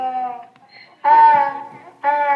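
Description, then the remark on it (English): A donkey brays in loud, strained hee-haw bursts: a long nasal call, a brief pause, then a louder bray and the start of another, with no talking. “And of course, Mary rode that donkey all the way.”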